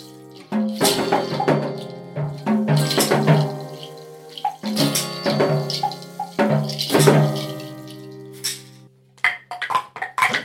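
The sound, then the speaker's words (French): Water of a muddy river, overflowing after a powerful storm, rushes and gurgles steadily with bright splashy bursts and resonant bubbling tones, moderately loud, with no voices, thinning into a few choppy splashes at the end. “Au loin, Mélie et Mélo aperçurent la rivière.”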